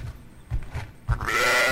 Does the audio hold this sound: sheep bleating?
yes